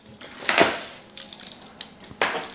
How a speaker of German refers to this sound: und ihre Kollegin gegenüber und klopfen Pralinen aus der Gussform.